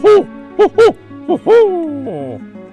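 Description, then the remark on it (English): A person vocally imitates the call of a barred owl, giving a rhythmic series of short hoots followed by a long, drawn-out hoot that slides downward, fairly loud. “And that's the barred, B-A-R-R-E-D, owl.”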